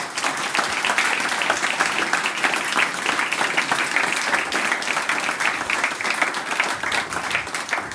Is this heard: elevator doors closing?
no